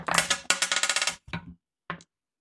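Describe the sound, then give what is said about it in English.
Five six-sided dice clatter and rattle across a hard surface in a rapid burst of clicks as they are rolled, followed by a couple of brief, separate knocks as the last ones settle, fairly loud. “So everyone roll your dice.”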